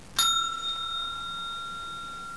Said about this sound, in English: When you hear the bell, turn the page.